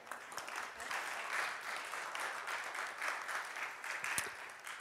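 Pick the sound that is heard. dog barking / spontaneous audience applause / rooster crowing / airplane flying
spontaneous audience applause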